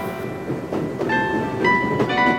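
A train rolls past on the rails, a steady rumble with thin, high metallic squeals rising and fading over it, and no voices.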